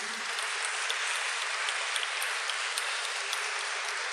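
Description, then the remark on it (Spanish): An audience at a church service applauds the person beside them, a dense, steady wash of many hands clapping that holds at an even, fairly loud level for about four seconds, with no voices over it. “Así que dale un aplauso al hermano que tenés al lado que lo vino a buscar a Jesús.”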